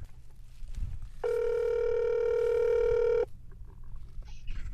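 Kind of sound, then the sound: signal or alarm, phone call ringing out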